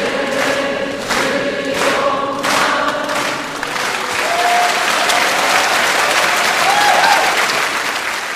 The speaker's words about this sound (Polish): Oklaskom na stojąco nie było końca, a publiczność nawet zaśpiewała operze Nowa 100 lat.